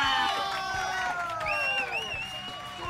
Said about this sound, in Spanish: Un fuerte aplauso